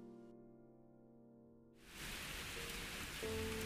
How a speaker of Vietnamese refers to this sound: Trời tối sầm, gió thổi mạnh cuốn phăng bụi đường, tiếng sấm nổ đùng đoàn, chớp giật liên hồi, cơn mưa rào bất chợt kéo đến.